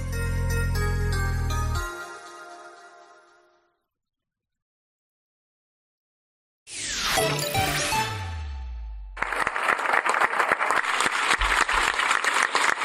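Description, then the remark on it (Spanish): A musical jingle fades into silence, then a falling swoosh with tones gives way to a steady burst of loud, dense applause from many hands, given in gratitude to a rural doctor for his dedication to his neighbours, that carries on to the end. “Aplausos, sí, este es el sonido del agradecimiento, el reconocimiento al cariño, a la dedicación de un médico rural a sus vecinos.”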